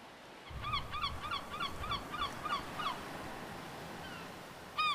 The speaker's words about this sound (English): As if signaling coming trouble, a seagull's cry fills the otherwise melancholy postcard-perfect vista of a calm pebbly beach.